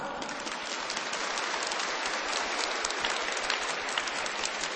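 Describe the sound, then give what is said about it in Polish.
Sustained, enthusiastic applause from a large audience, dense crackling clapping that stays steady and loud throughout with no voices on top; the applause greets the listeners of Radio Maryja on Children's Day. “A zatem w Dniu Dziecka wszystkich słuchaczy Radia Maryja pozdrawiamy bardzo gorącymi oklaskami.”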